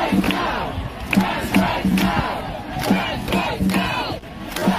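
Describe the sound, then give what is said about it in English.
A large crowd at an emergency trans rights demonstration in Parliament Square, London, chants the slogan "Trans rights now!" in unison, the rhythmic phrase repeating several times at a steady pace, loud and dense with many overlapping voices. “Organizers and police officials alike marveled at the size of the crowd that spilled over into St. James Park.”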